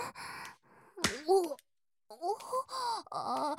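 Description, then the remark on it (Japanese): A single sharp, loud slap on the buttocks lands about a second in, surrounded by breathy, drawn-out vocal moans and sighs before and after. “デカジリビンタ、ありがとうございます。”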